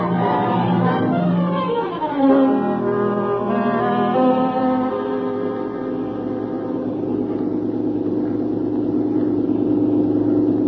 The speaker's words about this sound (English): We've bought a car. Hey, it's running. Well, sure it's running.